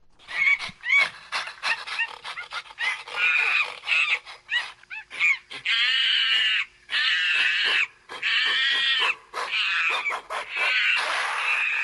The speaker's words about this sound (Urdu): بندروں کی ایک قسم گوریلا کی نسل بچانے کے لیے کام کرنے والی ایک خاتون انوگے فرانس کے نزدیک گوریلے خوراک حاصل کرنے کے لیے لڑتے ہیں.